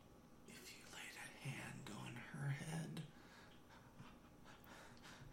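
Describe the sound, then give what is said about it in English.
A voice imitates heavy, anxious breathing, like hyperventilating, with rapid breathy puffs that rise to a louder peak midway and then continue more softly. “He starts breathing heavy, like hyperventilating.”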